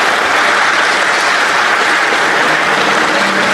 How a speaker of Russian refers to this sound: В Варшаве МИД Ромни выступил перед студентами столичного университета, где собрал овации.